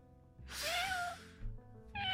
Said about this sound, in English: Admit there's ghost cats. Meow.